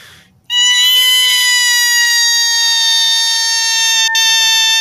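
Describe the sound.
A person lets out a sudden, piercing, high-pitched shriek that holds steady and loud for over four seconds, imitating an eerie shriek from a cave. No one speaks over it.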